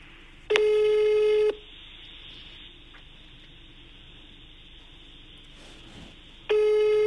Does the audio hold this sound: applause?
no